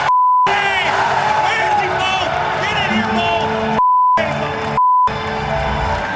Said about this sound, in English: This is just an actual piece of audio that I bleeped for content. This is what went out on NBC. Every time you hear a bleep, it's something that shouldn't have gone out on the national broadcast. It's the F word, mostly.